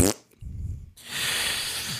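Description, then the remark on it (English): A voice imitates a fart with a low, buzzing raspberry lasting about half a second, followed by a long breathy hiss, fairly loud, with no words spoken. “Make the sound of a fart”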